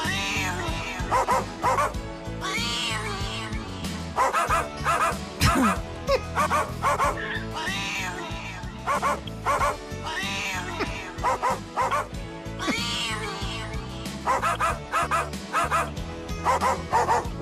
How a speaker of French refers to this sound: on joue pour Mickey, Mandarine et Mai Tai ce matin, une …. Chantée par nos chiens